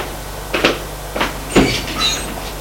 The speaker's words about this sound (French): Puis, va prendre, ouvre la porte qui donne au cellier.